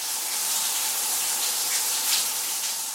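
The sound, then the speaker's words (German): Shower water runs steadily for a few seconds during a hurried morning shower in a hotel, a continuous hissing spray with a bright, splashing texture and no voices. “Gehetzt gibt es Frühstück im Hotel, nach einer noch gehetzteren Dusche.”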